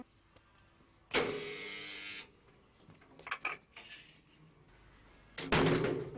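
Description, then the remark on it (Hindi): A door opens with a loud, sustained rushing whir, followed by a few sharp clicks and rattles, then another loud surge of the mechanism. No voices are heard. “दरवाजा खोलो, मैं हूँ। अंदर आ जाओ।”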